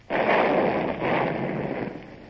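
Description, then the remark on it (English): A ship's cannon fires a broadside toward a road with a loud, broad booming blast, followed by a second surge of roaring noise about a second later that slowly rumbles away. No voices. “Mr. Gerard, train the guns on the road and only fire when I give you the signal.”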